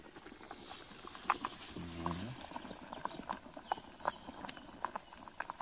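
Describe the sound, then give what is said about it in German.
Pasta water boiling hard in a pot over a wood fire, a steady bubbling broken by irregular sharp pops and ticks, with a brief low humming tone partway through. “Ich halte es mal kurz ein bisschen ran, das Mikro, damit man das hört.”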